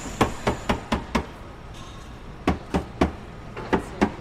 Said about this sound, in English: Underneath the car here, sprawled out on the ground, tapping underneath, tapping the spare tire.